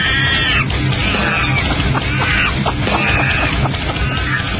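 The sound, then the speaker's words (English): Monkeys screech and chatter loudly over a dense, rumbling background, several shrill, wavering calls overlapping and sliding up and down in pitch without pause. “How did these monkeys get in here?”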